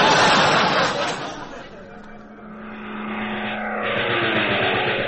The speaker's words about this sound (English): Captain, enemy plane sighted off the port bow. They're coming in at 4 o'clock.